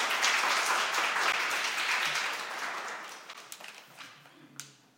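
applause

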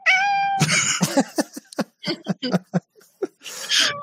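cat meowing

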